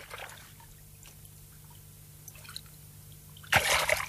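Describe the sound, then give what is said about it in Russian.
Quiet flowing river water with scattered drips and soft trickling, then a sudden louder surge of splashing, rushing water near the end. No voices. “Я в реке. Пускай река сама несет меня.”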